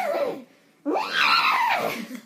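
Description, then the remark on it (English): A person's voice imitates the cry of a hippogriff, a creature part raptor and part horse: a falling squawk, a brief pause, then a loud, rising and falling screech with a whinny-like quaver, strained. “It's like an eagle, well, raptor, like, and then, like, a horse. So, like, what sound would it make?”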